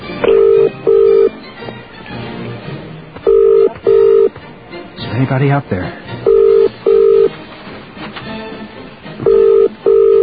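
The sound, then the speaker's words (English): A telephone ringback tone repeats in steady double pulses, four pairs spaced a few seconds apart, heard over the line on a call to England while a voice speaks briefly between rings and the call goes unanswered. “Probably why they're not answering the phone.”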